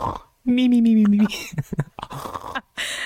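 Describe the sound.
A voice imitates the loud snoring of a medium in an apparent trance during a séance: a steady, buzzing, low-pitched drone lasting under a second, followed by short snorting, breathy bursts and rough vocal noises.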